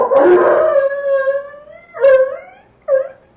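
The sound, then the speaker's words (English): A dog barks and howls in a darkened village, one long drawn-out wailing call followed by two shorter, sharper cries, loud and alone with no voices. “The dog barking. He'll get the rest of them going.”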